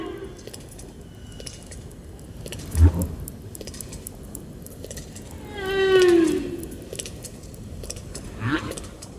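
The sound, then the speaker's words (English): Snapping shrimp in warm waters repeatedly slam shut their tiny claws, crackling constantly underwater, a dense fizz of tiny sharp clicks. A couple of louder thumps and a brief rising whistle-like tone stand out against it. “These common animals of warm waters split from other crustaceans about 150 million years ago, although their snapping claws may date to more recent times.”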